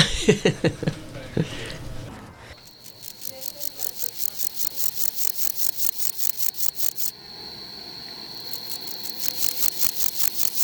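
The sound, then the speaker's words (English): A grasshopper stridulates by rubbing its back legs, producing a steady, rapid train of raspy, buzzing pulses with a thin high whine, briefly pausing before resuming, after a short burst of unrelated rustling at the start. “The first, the sound of their back legs rubbing, and the second, the sound of their wings snapping.”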